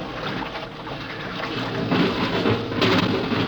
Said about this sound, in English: It's like an airlock. Water's being pumped out.